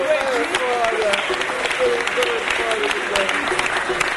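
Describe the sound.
A crowd claps steadily and loudly for several seconds in tribute to the late Seu Afonso, during talk about samba, a dense, continuous patter of many hands, with some voices calling out faintly beneath the applause.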